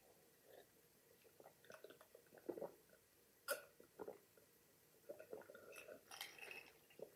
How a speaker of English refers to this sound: Let me take a drink of water.